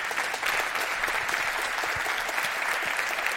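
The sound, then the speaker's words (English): An audience claps to welcome a speaker, a dense, even patter of many hands that holds at a fairly loud level throughout, with no voices standing out. “Let's give a warm welcome and applause to Louise Ashcroft.”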